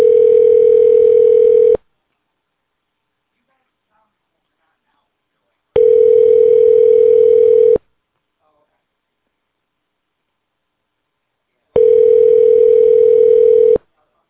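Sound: phone dial tone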